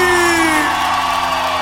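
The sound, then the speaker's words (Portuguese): A crowd lets out a loud, sustained shout and whoop, a dense roar of many voices holding steady for a second or two. “Quero ouvir um grito bem forte.”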